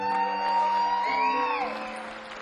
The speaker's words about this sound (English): So everybody give a big round of applause to all the folks that make this happen.